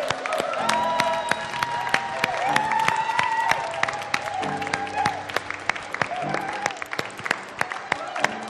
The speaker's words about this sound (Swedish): Jesus Kristus en stor applåd. Amen.